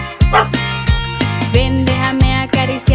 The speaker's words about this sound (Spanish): Dime, lindo perrito, ¿tienes hambre? ¿Quieres un poco de agua o de comida?